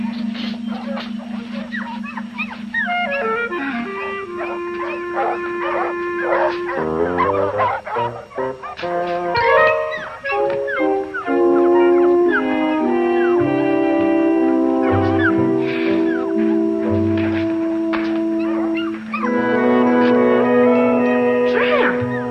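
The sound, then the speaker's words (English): A dog, Tramp, whimpers and yips in a cage in a string of high, drawn-out whines with a few short barks, steady over a sustained tonal background. “Look, I put this dog in 43 myself.”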